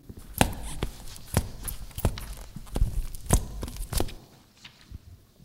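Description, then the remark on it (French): Steady footsteps, about eight or nine in a row, each step giving a short squeak from the shoes of a care-home resident as she walks. Fairly quiet, with no one talking. “La bonne réponse, les chaussures d'une résidente qui grince un peu quand elle marche.”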